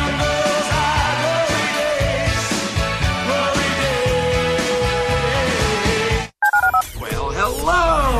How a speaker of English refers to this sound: Dial the phone.